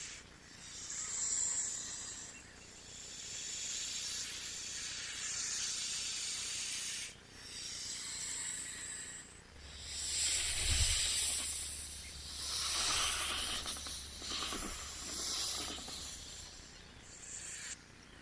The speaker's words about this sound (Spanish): Ah, es una serpiente que está al lado de Shere Khan, el tigre, y engaña también a Mowgli.